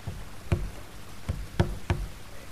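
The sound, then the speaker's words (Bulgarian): Four dull, padded knocks of a whole paw on the door of a snail's house, in an uneven rhythm with a pause after the first, while it rains outside. Moderately loud against a faint background hum. “Ще опитам с цяла лапичка.”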